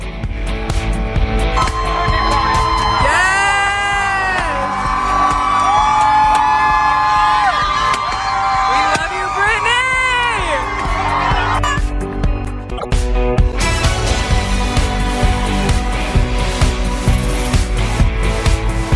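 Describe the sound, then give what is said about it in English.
Hundreds of people outside the L.A. County Courthouse cheer and yell after a judge's ruling, with high whoops and shrieks rising and falling over a steady roar of voices. After a brief dip, the clamor surges again, loud and continuous. “We're going to send you off into the weekend with a look at the scene outside of the L.A. County Courthouse, where hundreds and hundreds of people, clearly who had Friday off, gathered to hear a judge officially declare”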